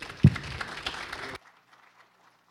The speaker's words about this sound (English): So give him a round of applause and welcome him, please.